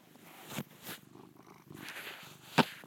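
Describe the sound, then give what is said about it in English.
A cat purrs steadily, a low rhythmic rumble running throughout, with a few soft rustling bumps and one sharper click near the end. “Want to say hi, kitty?”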